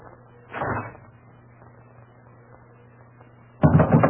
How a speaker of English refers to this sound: we'll open the door.